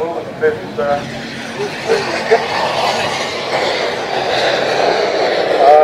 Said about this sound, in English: That's the Comet gone up. And the first aeroplane into the air. Can't believe that's actually a model. Unbelievable.